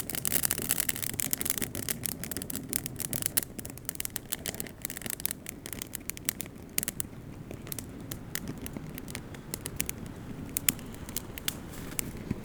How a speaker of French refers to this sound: Sentez-vous la chaleur, le crépitement.